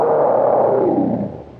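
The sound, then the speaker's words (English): A big cat lets out a single loud, deep, rasping roar that holds strong for over a second and then trails off, with no voices. “You're listening to the little kitten, huh?”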